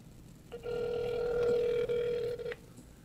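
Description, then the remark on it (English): A single ringback tone from a phone call plays over a speaker, a steady electronic buzz lasting about two seconds before cutting off, heard alone against faint background noise. “No, it was ringing and then it stopped ringing.”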